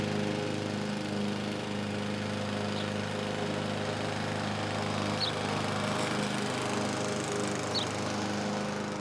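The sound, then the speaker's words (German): A lawn mower drones steadily as a man mows the lawn, a continuous buzzing engine hum with stable pitch and level, while a few faint high chirps, likely birds, briefly sound over it. “Jetzt mäht Katrins Mann wieder Rasen.”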